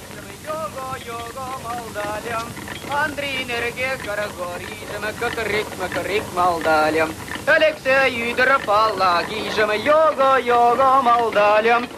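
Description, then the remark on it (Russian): A man sings a folk song loudly, his voice wavering through long, sustained melodic phrases with a faint outdoor rush beneath: in a Soviet film, the character Mustafa, played by Ivan Kyrla, rows a railway handcar like a boat while singing the national song 'Oy, Luy Modysh, Luy Madesh, oy, igraet kunitsa'. “Гребя на ней, как на лодке, Мустафа самозабвенно поет.”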